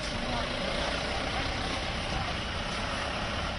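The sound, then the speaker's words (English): A car engine rumbles steadily as the car inches slowly along a road in Kashmir past men with faces hidden by handkerchiefs, its constant hum blending with a broad wash of road and traffic noise throughout. “Our car inches past men like this one, face hidden by a handkerchief, demanding to know where we are headed.”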